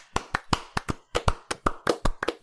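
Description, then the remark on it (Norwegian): A small round of applause for the game Psychedelic of the Ashen Rock as this year's game of the year: about a dozen sharp, distinct hand claps in a quick, slightly uneven rhythm, moderately loud, with no talking underneath. “En liten applaus.”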